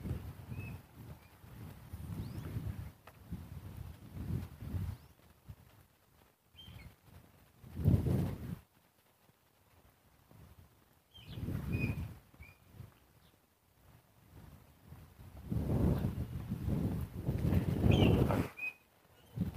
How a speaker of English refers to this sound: That's an interesting bird call. I don't know what that is. I can't see it. I don't can hear the direction it's coming from. But for all I know, it's bouncing around among the houses back there. I can't really tell.